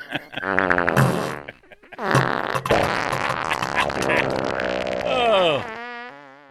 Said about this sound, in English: It's like an R-rated comedy. He's still sitting there farting.